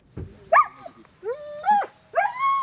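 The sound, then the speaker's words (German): Yukon, a German shepherd border-guard sniffer dog at the Basel Zoo (Zolli), gives three eager, whiny play barks, each a short yelping burst rising in pitch, with brief pauses between and no talking. “Der Schäferhund Yukon will spielen.”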